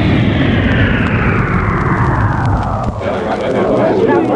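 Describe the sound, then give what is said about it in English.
A loud, continuous engine roar with a whine that slowly sweeps downward in pitch as six spaceships, accompanied by a robot plane, descend to a soft landing on the lawn around the Washington Monument in Washington, D.C., briefly dipping before surging again. “And on the lawn surrounding the Washington Monument in the capital city of the United States, the robot plane accompanies six magnificent ships to a soft landing.”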